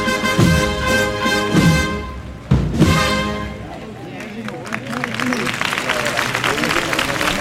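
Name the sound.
audience applause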